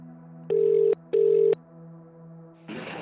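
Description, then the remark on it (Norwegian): Two steady electronic telephone ring tones sound in succession over a faint line hum as a call is placed to a Garmin GPS device expert, followed by a burst of hissy noise as the call seems to connect. No one speaks. “Vi ikke eksperter på GPS-enheter, så vi ringer noen som det.”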